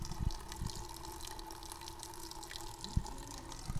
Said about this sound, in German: Hört mal das Wasser plätschern. Hier ist ein kleiner Brunnen mit einem Frauenkopf mit langen Haaren und da kommt Wasser raus. Hört euch das nochmal an.